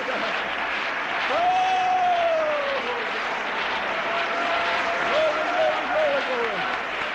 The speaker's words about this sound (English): Let's all clap our hands to the Lord, shall we?